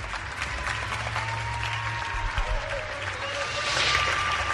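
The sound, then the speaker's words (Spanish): Neighbours clap and cheer at 8 o'clock in sustained applause for health workers, a dense steady patter of many hands with scattered whistles and shouts, holding at full strength throughout. “cómo se ha unido el español precisamente a esta iniciativa de aplausos”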